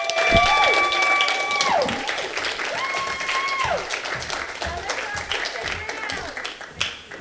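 A crowd claps steadily throughout, a dense crackle of many hands, while cheering voices and whoops rise and fall over it in long held tones, with a sharp clap burst near the end.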